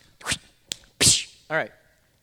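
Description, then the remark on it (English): A paper sign is slapped against a door: a few quick rustles, a sharp tap, then a louder flat smack, followed by a brief voiced grunt. “Okay, I'll just slap this on the door.”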